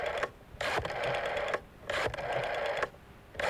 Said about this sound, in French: Ne quittez pas, on recompose le numéro de téléphone.